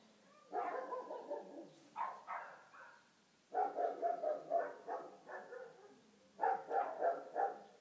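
A big German Shepherd next door barks in the morning on a street full of dogs, in quick, deep volleys of several barks each, pausing briefly between bursts, at moderate volume with no voices present.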